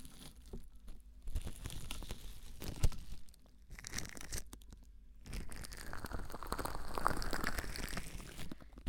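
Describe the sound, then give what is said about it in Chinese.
Plastic cling film being handled, a dense run of crinkling and crackling rustles with sharp snaps, brief pauses, then a smoother, steady rustle in the second half. No one speaks. “我们把保鲜膜整理一下。”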